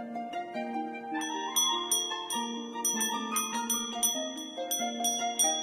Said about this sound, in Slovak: sa veľmi páčilo, ako ovečky zvonia. To bolo ako krásna hudbička.